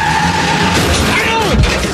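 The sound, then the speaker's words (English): A car's tires screech loudly in a long, wavering skid on a road, the pitch bending downward before a heavy low thump as it crashes into a portable toilet and knocks it over near the end. “Actually, a car. Oh, my God, I hear a car coming.”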